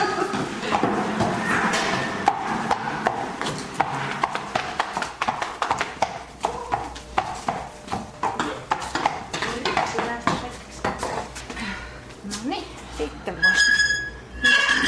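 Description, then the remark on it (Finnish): Horse hooves clip-clop on a hard floor, a steady but uneven run of sharp knocking steps, with faint voices murmuring in the background, as a horse is taken to its stall in a stable after a riding lesson. “Hevonen pilttuu se ja sä vähän hoidat sitä vielä sitten.”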